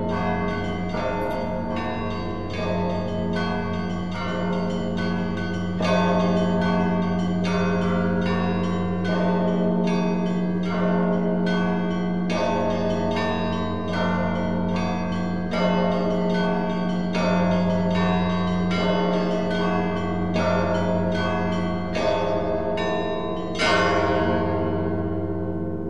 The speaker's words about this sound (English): onwards to a very special destination, the St. Daniel Monastery, one of the oldest, the 14th century. For two centuries it took them to assemble the bells at the bell tower there, and the ensemble is considered nothing short of an artistic miracle.